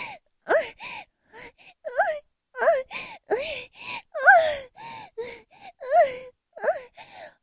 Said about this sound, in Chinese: 高潮之后，压在哥哥的身上喘息，好舒服呀。